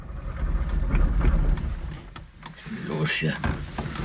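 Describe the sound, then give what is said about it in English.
An old East German car engine sputters and turns over as it is being started, its low rumble swelling then dipping before catching again and running, with mechanical clunks and muffled voices. “At first, we couldn't get his old East German car to start. But then, finally, the motor started running.”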